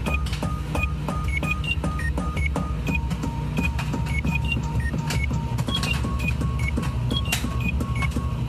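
A microwave beeps out a pop song melody: a quick, rhythmic run of short, high electronic tones stepping between pitches, playing over a steady low humming drone, with no talking.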